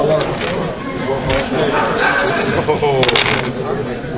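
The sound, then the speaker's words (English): Six dice are rolled during a game, clattering and tumbling across a hard surface in a quick burst of sharp clicks, with background chatter from people around the table. “You're going to do the 6 dice again?”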